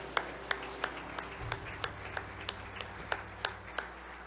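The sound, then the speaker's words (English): An audience claps together in a steady, even rhythm, roughly three sharp claps per second, over a low sustained hum. The clapping is moderately loud and no one speaks. “clap long enough for me to join you.”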